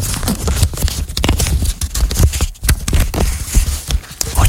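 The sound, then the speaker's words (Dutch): Paper pages of a script (a running order) being handled and shuffled in a studio, a steady run of dry crackling rustles and crisp little snaps, fairly loud and with no voices. “Ga ik gewoon even fluisteren en dan pak ik mijn draaiboek. Even vormen met die pagina's.”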